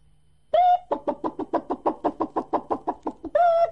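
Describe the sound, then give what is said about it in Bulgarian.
Hens clucking in a quick, steady run of about a dozen short clucks, framed by a drawn-out, squawking call at the start and end. “Кокошките, каза селянина.”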